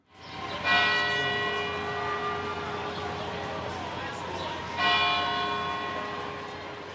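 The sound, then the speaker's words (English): A large, deep memorial bell tolls twice, about four seconds apart, rung by the city at 2:49 during a moment of silence marking the sixth anniversary of the 2013 marathon bombing; each strike rings out with a long, shimmering hum that lingers over faint background murmur. “today's race marks the sixth anniversary to the day of the 2013 marathon bombing, and the city, as it has customarily, held a moment of silence with a bell ringing at 2:49, marking the time of the first explosion.”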